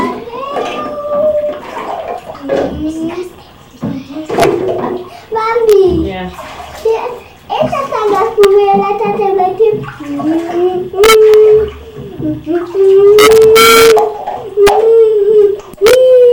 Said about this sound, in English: Fall from far up makes big splashes.